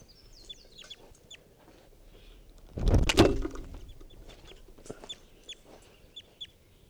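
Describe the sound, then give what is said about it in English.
A wild bird gives short, high chirping clucks scattered throughout as someone tries to herd it into a net, broken midway by a sudden loud burst of rustling or flapping that fades back to the quieter calls. No one speaks. “I'm right next to that wild bird.”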